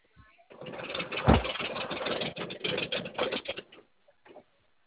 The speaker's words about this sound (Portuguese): Eu vou parar o caminhão, eu vou parar o carro aqui.